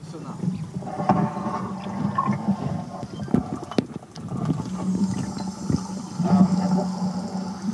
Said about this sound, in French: Grâce à cet enregistreur, nous pouvons entendre ce qu'il se passe sous nous et comment les dauphins communiquent entre eux. C'est magique.